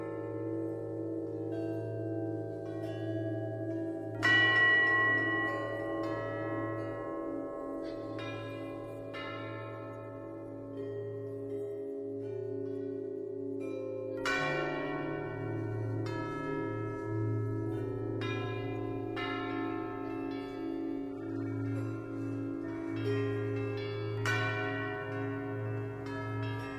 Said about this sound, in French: Ici même, la cathédrale vous offre de pouvoir créer votre propre tintement de cloche.